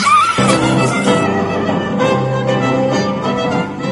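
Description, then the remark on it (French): A voice mimics a horse's whinny, loud, with a shrill quavering cry at the start that settles into a sustained, buzzing, tonal sound for several seconds. “Faites-moi le cheval.”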